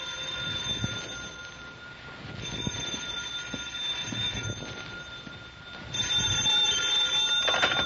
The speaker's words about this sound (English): In an hour and a half, I was still looking. Then the phone rang.